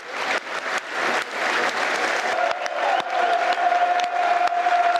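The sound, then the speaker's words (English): A large football stadium crowd gives a minute's applause for Jimmy Greaves, starting and ending on the referee's whistle: a dense, continuous wash of clapping from many hands, with a faint sustained tone emerging partway through. “There will now be a minute's applause, which will start and end on the referee's whistle.”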